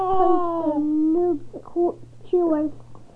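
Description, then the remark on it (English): A voice imitates the chirp of the robot droid R2-D2 with two whiny, gliding tones. The first is long and sinks in pitch, then short warbly blips follow before a second, briefer falling whine, over a low steady hum. “He heard a cushioning chirp.”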